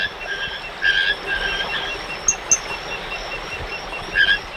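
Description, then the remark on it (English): High, tonal calls of Ismohyla calypsa, a tiny emerald-colored tree frog, repeat in short bursts over a steady wash of insect and night ambience in moist, mossy old-growth oak cloud forest, with a couple of sharp chirps standing out near the middle. “spending her days studying the reproductive behavior of Ismohyla calypsa, a tiny tree frog the color of emeralds.”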